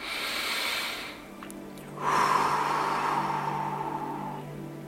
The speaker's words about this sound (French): Vous allez à présent vous concentrer sur votre respiration, inspiration, expiration.